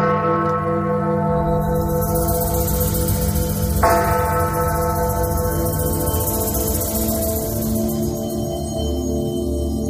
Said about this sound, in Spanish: cada viernes 13, en el interior de la mansión, se tocan 13 veces las campanas que allí se conservan. Y se tocan exactamente a las 13 horas.